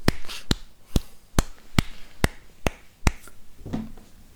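Eight sharp hand claps land at a steady, even beat, like two bars of four-four time, followed by a softer, muffled thump near the end. No one speaks.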